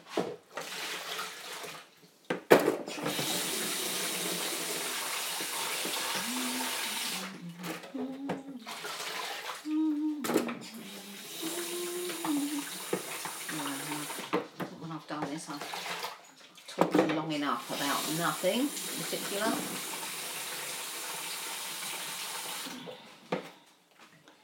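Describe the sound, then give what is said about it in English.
A tap runs steadily with a broad hissing rush of water into a dog's water bowl, refilling it with clean water, nearly continuous for about twenty seconds with a few brief pauses, while a man talks over it. “change the dog's water. It's my next job.”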